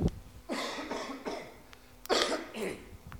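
A person who is ill coughs in two harsh fits, a quick string of three or four hacking coughs followed after a short pause by a couple more, with no talking.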